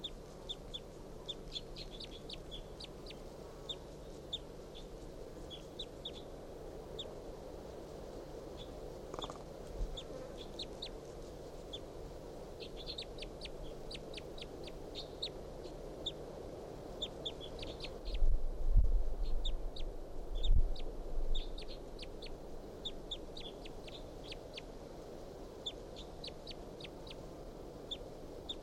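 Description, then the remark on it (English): Wild birds call continuously, with many short, high-pitched chirps and soft clucking notes repeating irregularly throughout, over a low steady background hum with a few dull thumps partway through. “Song now about the wild bird.”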